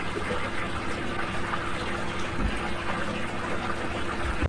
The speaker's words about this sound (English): All right, I will help you by taking my bath. First I have to run more hot water in here before I become noisy.